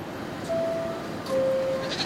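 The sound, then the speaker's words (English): A goat at the closing doors of an MTA subway train bleats twice, each call a steady, drawn-out tone, the second longer than the first, over a broad rumble of background noise. No one speaks. “Man, that goat will be pulverized by these powerful doors.”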